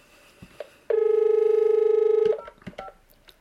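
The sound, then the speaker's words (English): A single loud electronic ring from a hands-free desk telephone, a buzzing warbled tone lasting about a second and a half, with faint clicks and rustling before and after. “And you'll be able to hear me answer the phone through the hands-free phone, and I'll make a brief message so you can hear it.”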